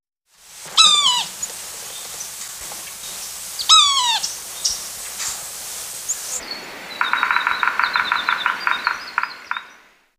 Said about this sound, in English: Yellow-bellied sapsucker.